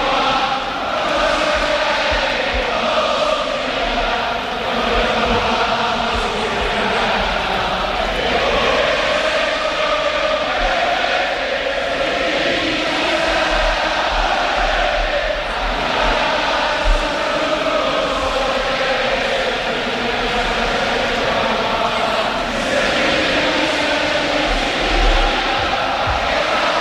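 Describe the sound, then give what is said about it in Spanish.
A huge crowd of nearly 40,000 at the Sánchez Pizjuán stadium in Seville sings the Sevilla anthem a cappella, thousands of voices blending into a loud, sustained, swelling wall of melody that rises and falls steadily for the whole stretch, with no instruments. “Ahí está el estadio cantando a capela el himno del Sevilla.”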